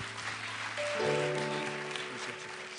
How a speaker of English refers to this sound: Let's give the hand clap to Jesus.